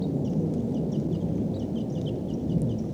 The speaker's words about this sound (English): There could be as many as 10 birds here. Stop. Birds are calling. They may take off. These are wild birds.